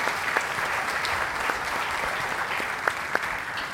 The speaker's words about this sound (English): And we offer the music. What wonderful music. Let's have a round of applause for the music. I mean, that's amazing.